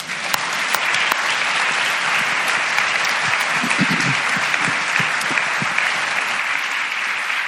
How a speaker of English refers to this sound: Hey, you know, I'm not really big on clapping, but let's give them a hand.